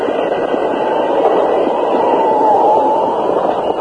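A train rolls steadily along the rails, a loud, continuous rumbling roar with a faint squealing tone rising near the end, sustained throughout.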